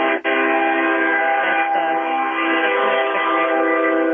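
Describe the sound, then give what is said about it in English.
A train horn blares in one long, unbroken blast, a loud, steady chord of layered tones that holds for several seconds with no talking over it. “You must be near a train.”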